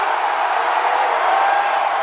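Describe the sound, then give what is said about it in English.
A loud, sustained roar from a huge crowd of Kansas City Chiefs fans cheering at their outdoor stadium in Kansas City, a dense wall of voices that holds steady without a break for the full two seconds. “Just listen to this crowd noise for a moment.”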